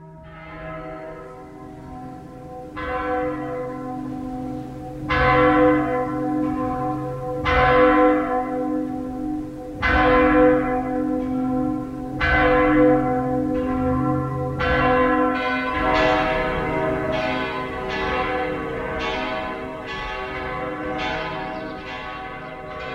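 Church bells ring out loud, several bells striking in a steady overlapping peal, each stroke blooming into a long humming resonance that thickens as more bells join in.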